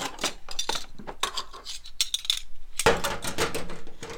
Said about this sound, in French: Ça ressemble étrangement à la cuisine, parce que j'ai ma recette, j'ai ma casserole, j'ai ma balance. Et donc je suis en train de peser les ingrédients au fur et à mesure.